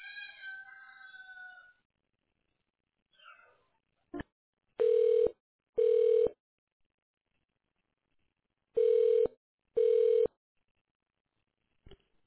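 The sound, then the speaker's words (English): A telephone ringback tone sounds as a call to the company Seobond is connected: two pairs of steady, mid-pitched buzzy rings separated by a pause. A few faint clicks come before and after. “Please wait while we connect your call.”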